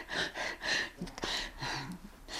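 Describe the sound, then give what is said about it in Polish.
A person with fibrotic lung changes struggling to draw a full breath: a series of short, strained, breathy inhalations in quick succession, moderately loud, with no talking. “No i nieraz tak właśnie nie mogę złapać pełnego oddechu.”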